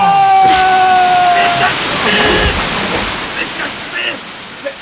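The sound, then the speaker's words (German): Rough sea waves roar and crash loudly and continuously, a dense churning wash of water, with a high whistling tone sounding over it during the first couple of seconds. “Niemand kann in so einer See schwimmen!”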